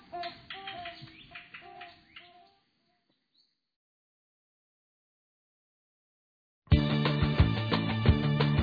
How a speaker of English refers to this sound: It's a duet, like these toucan barbets we're hearing, where each partner has an important role.